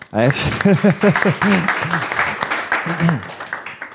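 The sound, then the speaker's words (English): An audience in a room gives itself a round of applause with steady, dense clapping for several seconds, while loud whoops and cheering voices rise over it early on and again briefly near the end. “So big round of applause to everyone in the room.”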